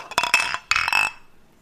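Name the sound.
glasses clinking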